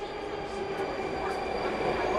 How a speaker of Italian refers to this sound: Ora siamo nella metro. Si parte. Siamo nella parte ovest di Helsinki, la parte ricca.